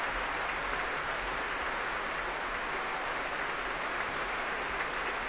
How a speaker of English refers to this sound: Well, Tadaki Otsaka and Jonathan Lamalu coming back onto the stage now to take another bow. The applause doesn't really sound like it's abating in any way, does it?